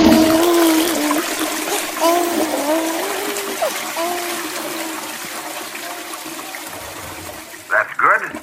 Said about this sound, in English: I like that toilet flushing. Where is the baby? There it goes, in the toilet.